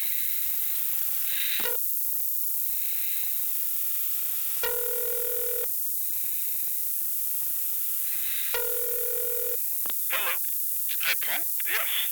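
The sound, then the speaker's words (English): Two long electronic ringback tones sound over a phone line as the Hotel Pontchartrain in Detroit rings through to Tony DeFranco, evenly spaced about four seconds apart, with faint line hiss between and a brief burst of muffled voice chatter near the end. “I'll try ringing, sir.”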